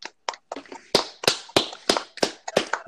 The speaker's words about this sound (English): Everybody applaud for the Bills. Applaud.